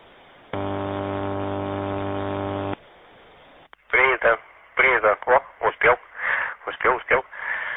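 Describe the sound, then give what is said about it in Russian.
A loud, steady harmonic buzz of radio interference drones for about two seconds over a narrow, crackly channel, then cuts out as a voice starts talking through the radio. “что-то хотел сказать, это помеха, все мысли из головы вытолкнула.”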